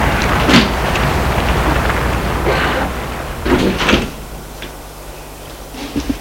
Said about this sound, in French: Elle s'approche de la porte vitrée qui s'ouvre. Elle entre.